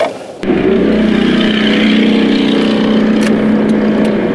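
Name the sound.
motorcycle engine noise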